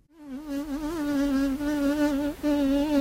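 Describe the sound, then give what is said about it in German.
A housefly buzzes in flight, a steady droning hum whose pitch wavers slightly as it moves, with a brief dip before the buzz resumes. “Dank ihnen wollen sie die Aerodynamik des Fliegenflugs verstehen und künstliche Fliegen entwickeln, die hoffentlich nicht durch unsere Schlafzimmer, aber eines Tages vielleicht über unsere Felder surren.”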